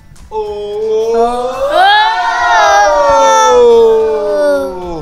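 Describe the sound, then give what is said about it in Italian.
A group of children at the Sapre in Milan lets out a loud, sustained cheer for the Italian Cincia Allegra, their high-pitched voices rising together into a long shout that lasts several seconds before tapering slightly. “E allora io proporrei un grande boato per la cincia allegra italiana.”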